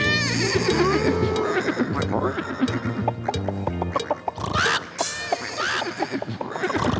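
A horse neighs once in a brief, shrill whinny over a bouncy musical backing, standing out clearly partway through before the music carries on.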